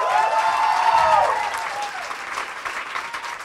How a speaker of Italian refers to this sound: Contro ogni repressione di oggi, di ieri, di domani, un grande applauso ancora